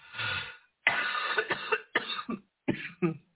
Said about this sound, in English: Yes, I still have a bit of a cough. Excuse me.